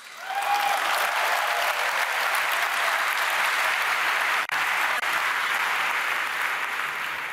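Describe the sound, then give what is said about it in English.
A crowd of about 7,000 applauds steadily for the four people retiring in the next five years, dense overlapping claps forming a loud, even wash of sound that holds throughout with only a brief dip near the middle. “All right, let's clap it up for the four old people.”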